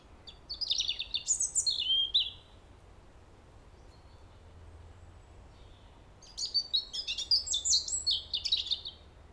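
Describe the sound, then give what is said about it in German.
A European robin sings two bursts of high, tumbling, warbling phrases separated by a few seconds of quiet, with a faint low hum underneath and no voices. “Das war wohl das Dankeslied eines Rotkehlchens.”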